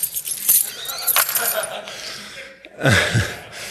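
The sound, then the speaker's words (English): Keys jangle in bright, metallic bursts, shaking on and off for a few seconds, with a brief pause before another rattling flurry near the end. “I do have some keys.”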